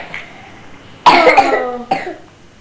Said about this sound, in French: Oui, il tousse quand même.